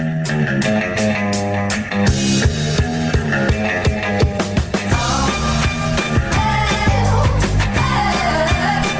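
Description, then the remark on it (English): A loud, dense music mashup blending new wave and rap, with a steady driving beat, punchy percussive hits and layered sustained tones playing continuously throughout. “has taken … and mixed it with a little …”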